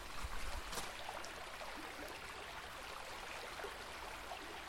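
flowing river water

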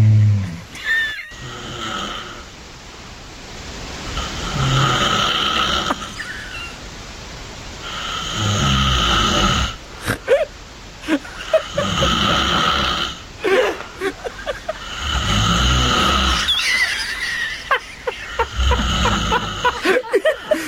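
loud human snoring

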